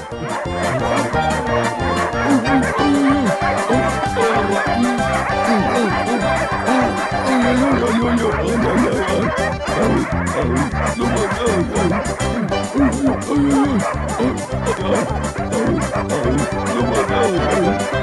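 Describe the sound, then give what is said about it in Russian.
A pack of village dogs chasing a bear barks, growls and yips over one another in a dense, continuous chorus, loud throughout, with an occasional whimper amid the frantic, overlapping clamor. “Собаки целой сворой за ним.”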